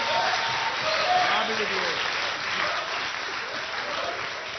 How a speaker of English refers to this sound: Go ahead, you can applaud. That's all right.